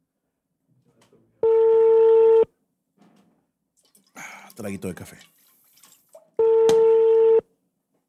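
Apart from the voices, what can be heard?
telephone dialing tones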